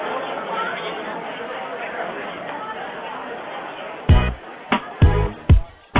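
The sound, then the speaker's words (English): A crowd at the J Bay Kayak Fishing Tournament makes a steady, dense roar of many voices, then several loud, sharp bursts of cheering and noise break out near the end. “The crowd's going wild.”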